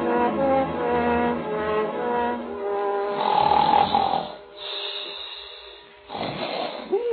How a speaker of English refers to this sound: You there. You, sir. Stop that confounded snoring. Wake up.